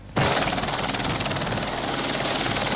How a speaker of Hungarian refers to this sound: Üresen érkezik a helikopter Budapestre, úgy, ahogy tegnap is. Most azonban azért, mert már egy másik kórházba vitt egy beteget.